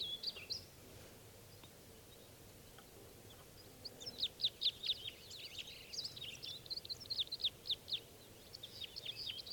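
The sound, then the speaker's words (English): About three birds chirp and sing in spruce trees near a net setup, in quick, high-pitched bursts: a brief call at the start, then a steady run of repeated notes over a low, quiet background hum. “About 3 of them are still here in the spruces near the net setup.”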